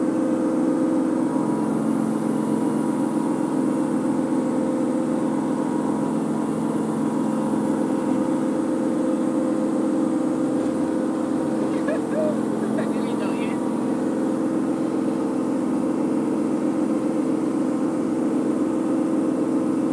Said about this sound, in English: A water bus we just overtook.